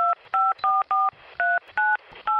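A quick series of about seven touch-tone dialing beeps, each a short steady dual-pitched tone separated by brief gaps, clear with no voices, as a phone call is placed.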